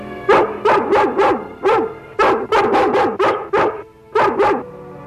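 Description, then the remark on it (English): A female dog barks rapidly and repeatedly in short bursts, loud, with brief pauses between clusters of sharp, slightly whining barks. “It's okay, girl. Steve wants to help Laddie.”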